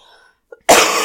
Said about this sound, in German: Aber ja, mein Gott, mein Husten, ich muss mich entschuldigen.